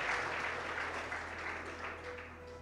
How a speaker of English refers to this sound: You can clap for that. That's fine. That's awesome.